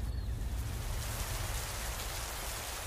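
nature, sudden heavy rain downpour

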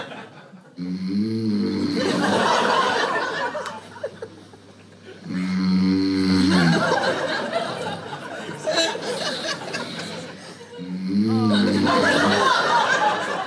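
human body sound, man snoring

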